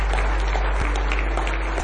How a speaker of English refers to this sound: Give him one more hand clap of praise if you love him tonight.